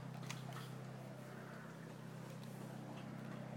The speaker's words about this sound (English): Well, there's that plane. I reckon that could be that. Oh. There we go. Oh, that's quite low.